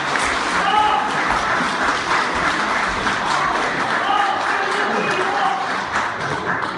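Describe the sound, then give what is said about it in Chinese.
Steady, dense applause from a large audience welcoming performers fills the whole stretch, a loud continuous patter of many hands clapping at once, with faint crowd murmur mixed underneath. “留者掌声欢迎。”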